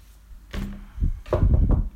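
Several hollow, wooden knocks on the door of a sorcerer's house in China, fairly loud, landing in an uneven rhythm over about two seconds with no voices.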